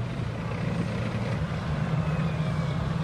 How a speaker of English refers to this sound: As the F-18s thunder overhead, two waves of amphibious assault vehicles spill out of the Adelaide.